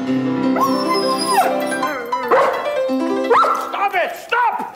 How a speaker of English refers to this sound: Like when he shows up at the house where they want him to teach the daughter how to play piano, but the dogs are just barking and it's obviously from the sound of all the dogs barking, a place where music cannot exist.